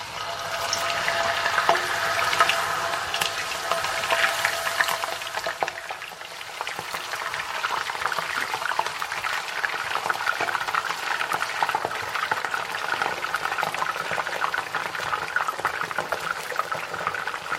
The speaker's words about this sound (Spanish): Cuidado, no os queméis, que esto no es broma. Y el aceite está hirviendo. Bueno, una vez tenemos puestas todas nuestras patatas cortaditas dentro de la sartén, tenemos que bajar un poquito el fuego para que no se nos quemen las patatas.